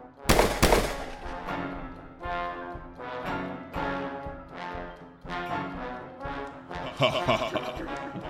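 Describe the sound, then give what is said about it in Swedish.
A burst of gunfire aimed at a pair of eyes: two sharp, loud cracks open the sequence, followed by a string of irregular blasts with ringing, echoing tails, roughly one per second. “Innan vi gör det så säger jag till pojken, lägg an, säger jag, och så skjuter vi mot de här ögonen.”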